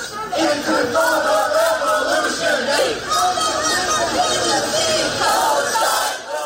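A large crowd of young protesters at American universities, dissatisfied with Joe Biden's handling of the Gaza war and calling for a ceasefire, chants in unison, loud rhythmic shouting that rises and falls steadily across the whole stretch, many voices blending into a continuous roar of slogans.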